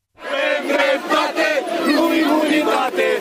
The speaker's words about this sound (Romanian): Aproximativ 3.000 de oameni au protestat aseară în capitală în fața Senatului